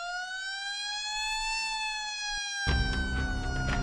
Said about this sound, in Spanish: Si todos los internos están en sus celdas, vuelve a sonar la sirena.